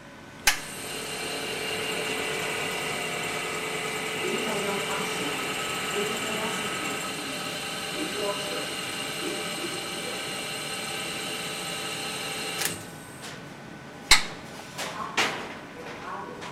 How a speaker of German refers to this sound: Die Tür zur Experimentierhütte schließt sich automatisch. Ein Warnblinklicht oberhalb der Tür zuckt in orangenen Blitzen.